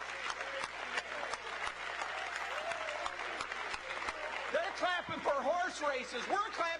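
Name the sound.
audience clapping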